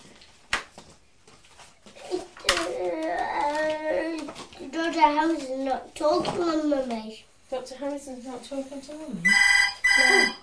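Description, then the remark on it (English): A telephone rings loudly with a bright, rapidly trilling electronic tone near the end, after a stretch of high-pitched child-like voices chattering and squealing. “I'll just get the phone.”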